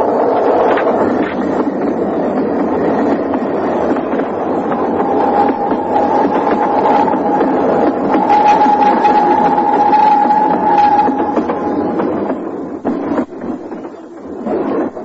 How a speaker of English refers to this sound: I hope to see the train go by.